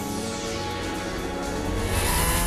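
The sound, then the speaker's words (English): A convertible's engine roars steadily and builds as the car speeds over from a paved road toward a taxiing private jet, swelling louder toward the end amid a dense, rushing background with no voices. “The convertible speeds over from a paved road, Frank keeping the taxiing plane in his sights.”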